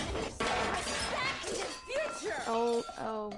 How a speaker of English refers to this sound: Oh, okay, now she's just smashing everything in the room.